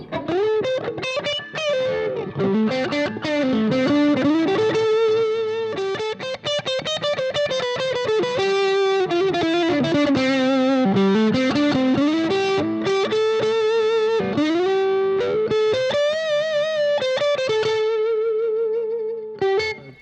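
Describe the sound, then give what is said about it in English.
A distorted electric guitar, played using both pickups, plays a continuous, singing melodic line with bends and held notes, loud, with no talking over it for the full twenty seconds. “I'm going to use both pickups.”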